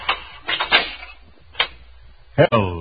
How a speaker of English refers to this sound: Uh-oh. I hear footsteps coming down the corridor now. Oh, me. I wonder who's going to do that nasty job.